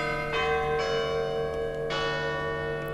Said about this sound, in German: Ja, das ist auch so eine schöne Tradition aus Nathers, ein Carillon, ein Glockenspiel.